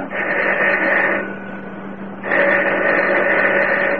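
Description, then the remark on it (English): A doorbell buzzer at a basement apartment, rung by police, sounds twice in long, steady, loud electric buzzes, each lasting over a second, with a short gap between them and no voices. “I'm ringing the doorbell.”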